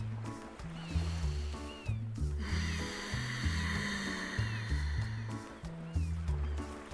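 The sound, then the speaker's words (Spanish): Slow, hissing breaths drawn through a constricted throat, imitating the rush of ocean waves, rise and fall over a gentle, steady instrumental melody, with one long, louder breath in the middle. “Y como las olas del mar, vamos a hacer el sonido.”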